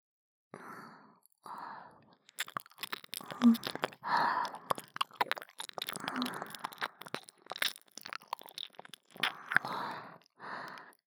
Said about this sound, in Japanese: 反対側の確認も必要ですね。どちらかの方向しか録音できないのであれば片手落ちです。舐める音も吐息もきちんと拾ってもらわねばなりません。